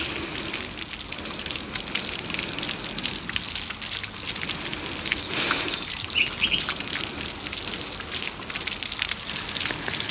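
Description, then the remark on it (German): Steady splashing and trickling water from a garden fountain runs throughout at an even level, with a brief faint chirp midway and no voices. “ging zur Hintertür hinaus und durch den Garten, wo der Springbrunnen noch plätscherte.”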